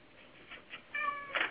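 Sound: cat meowing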